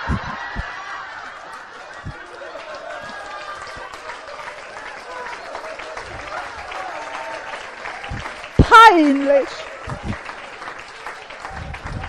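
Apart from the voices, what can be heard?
audience applause and laughter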